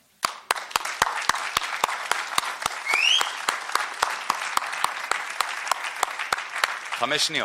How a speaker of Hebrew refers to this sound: אז שנייה, לא, 5 שניות, אני רוצה למחוא לכם כפיים. תודה רבה.